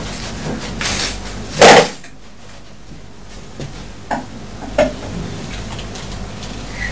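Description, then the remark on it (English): Kitchen clatter of a knife chopping eggs against a board: one louder, clattering chop early on, then two light, sharp taps a few seconds apart over a quiet background. “Well, are you chopping them?”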